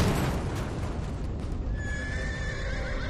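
A horse whinnies loudly and up close, its high, wavering neigh rising over a dense, noisy background with what sounds like hooves clopping throughout. No one speaks.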